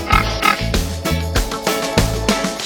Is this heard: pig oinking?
yes